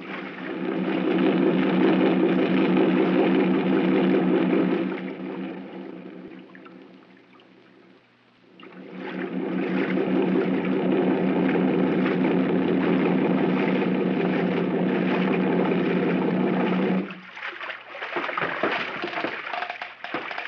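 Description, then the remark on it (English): A boat engine drones loudly and steadily, fades briefly, surges back up, then cuts off near the end as the boat is run up alongside an old piling at a forested mainland shore, leaving a few scattered knocks and splashes. “Run the boat up alongside that old piling and tie her up”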